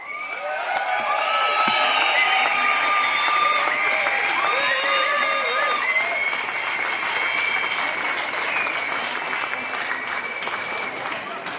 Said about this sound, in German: Ich würde sagen, nochmal ein extra Applaus für zusammen mit den Treckern.